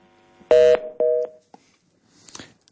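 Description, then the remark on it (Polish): A telephone line on a radio call-in programme gives two loud, short electronic tones in quick succession, a harsh buzzy one then a cleaner beep, followed by a brief faint crackle of line noise. “Nowy sygnał pojawił się nam.”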